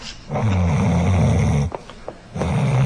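A man snores loudly right up against a microphone, one long, rumbling, rattly inhale followed by a brief pause and the start of another deep snore. No one speaks.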